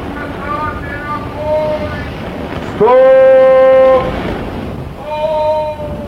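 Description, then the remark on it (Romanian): A ship's steam whistle sounds one loud, steady blast of about a second over a low churning engine rumble, with softer wavering tones before and after, as the ship's engine is ordered to half speed astern in a dangerous zone near the pole. “Mașina, jumătate înapoi!”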